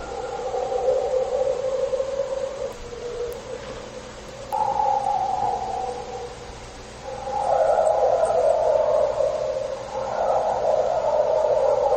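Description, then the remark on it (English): A chorus of sustained, wavering howls rises and falls in pitch for about twelve seconds, swelling louder toward the end, with a dog's barking mixed faintly among them and no talking. “can hear the dog barking amongst these howls.”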